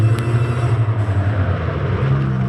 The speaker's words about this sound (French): Le vieux camion s'éloigne dans un nuage de poussière et de carburant de mauvaise qualité.